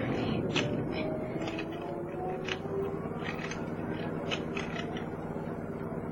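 Car windows are wound up with a repeated squeaky ratcheting, a quick rhythmic series of creaks over a steady, dense rumble, as a storm arrives outside.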